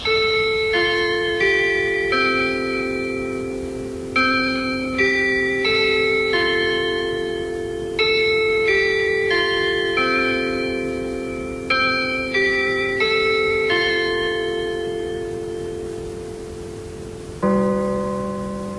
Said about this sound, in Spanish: Prepárate, vamos a dar las campanadas.